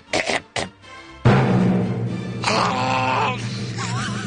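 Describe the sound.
A man imitates Chewbacca's growl: two short throaty bursts, then a long, loud, rough howl that wavers and warbles in pitch for several seconds.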